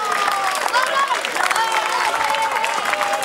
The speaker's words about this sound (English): The Fort William fans kept on cheering as their team beat Nairn County 5-2.